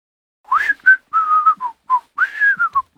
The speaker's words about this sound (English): Must you whistle all the time? Oh, sorry. I didn't realise I was doing it.